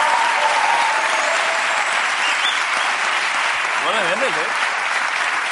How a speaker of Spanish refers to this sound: Joder, un aplauso para Lion Sanders, que es increíble.